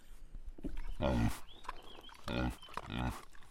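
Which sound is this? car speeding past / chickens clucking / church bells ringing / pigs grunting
pigs grunting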